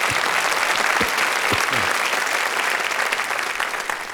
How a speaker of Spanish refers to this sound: Un solo evangelio. Un aplauso a Cristo, se lo merece.